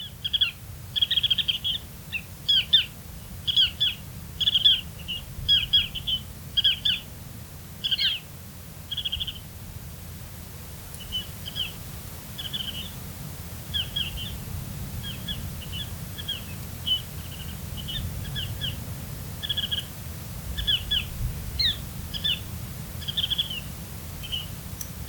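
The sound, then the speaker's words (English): Ruddy Turnstone calls: rapid clusters of sharp, chattering notes repeating in bursts over a steady low rumble of surf or wind, clear, with no voices. “This has been WSHU's Bird Song Break featuring the Ruddy Turnstone.”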